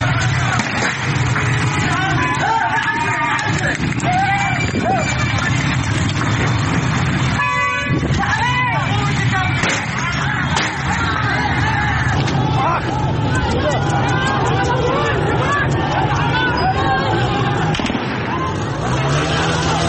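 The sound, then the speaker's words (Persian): A loud, rapid burst of gunshots fired by security agents at street protesters cracks out partway through, amid continuous crowd shouting and chaotic hubbub, with car horns honking at times. “بشنویم با هم صدای شلیک گلوله ماموران به معترضان رو.”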